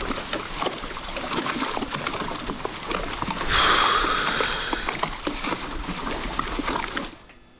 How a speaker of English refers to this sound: I thought I had more fucking boat sound effects, motherfucker.